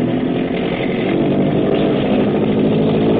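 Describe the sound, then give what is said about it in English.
A boat engine being opened up at nightfall in deep water roars loudly and continuously, a rough, buzzing drone with a steady pitch that holds for the whole stretch, with no voices over it. “The Long Tom up ahead digs her stern down and begins throwing up a bow watch. Hackett is opening up. Open her up, Grab.”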